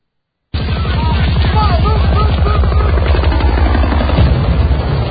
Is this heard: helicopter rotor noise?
yes